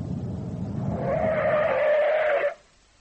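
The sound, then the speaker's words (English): A police car's engine rumbles, then tires let out a long, sustained screech as the vehicle skids, cutting off sharply into near silence after a couple of seconds. “Then they grew and merged, and behind them came the sound of an engine, and behind that, the police.”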